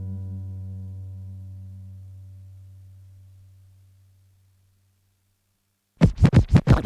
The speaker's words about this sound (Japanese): 毎日レコードを前後させて喜んでます。